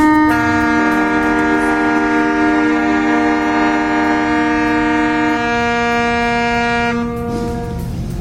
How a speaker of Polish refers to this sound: Na placu poza nimi są żołnierze, przedstawiciele władz i wielu gości, którzy czekali tu na dźwięk tyfonów na okrętach i syren alarmowych. To właśnie o tej porze padły pierwsze strzały II wojny światowej.